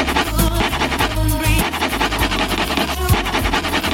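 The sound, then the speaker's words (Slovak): Steady rough scratching of a Typos lottery scratch card rasps continuously over a loud radio music track with a pulsing bass line, the scraping noise partly masking the song. “Takže vy teraz dobre natiahnite uši, aby ste zachytili, aký hit počúvam popri tom, ako stieram žreb od Typosu.”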